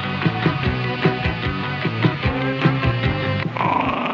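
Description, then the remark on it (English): A dog being taken out for a walk growls and grunts in a steady, rhythmic run of rough low pulses, fairly loud, continuing without pause for several seconds with no talking. “The only reason I'm taking this dog out for a walk is to get out the house, away from the missus.”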